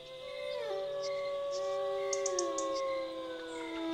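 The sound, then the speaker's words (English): Jackals howl at night in a jungle, long overlapping wavering tones that rise and slide, with a few short high yips breaking in, sustained and fairly loud throughout without any talking. “The symphony of uncountable insects was joined occasionally by the howl of a jackal.”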